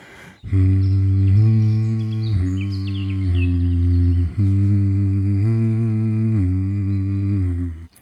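A voice hums steadily in low, sustained tones as a voice exercise to loosen the vocal cords, stepping between a few different pitches in long held notes, with no words and only brief breaks between phrases.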